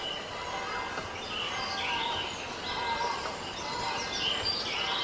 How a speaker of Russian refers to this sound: Направьте внимание на звук криков птиц. И сконцентрируйтесь на нем. Усиленно сосредоточьтесь на звуке криков птиц.